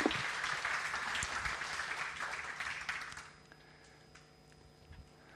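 An audience applauds, a dense wash of clapping that holds steady for about three seconds, then thins out and fades to quiet.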